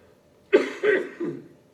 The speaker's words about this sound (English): As you can see, I've been under the weather a little bit this week, and hopefully you aren't having to take the brunt of it here with me coughing and carrying on up here. God willing, things will go right and the coughs will cease,